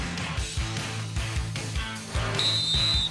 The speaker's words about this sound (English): at the Kohl Center as that was the whistle. Second half is underway. Wisconsin hosting Penn State, and the Badgers down 40-26.